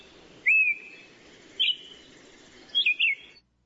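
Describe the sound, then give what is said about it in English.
A red-crested cardinal, a very common bird on Kauai, sings a few bright, whistled phrases, a sliding note followed by short warbled bursts, clear against a soft background hiss with no talking. “This is the red-crested cardinal.”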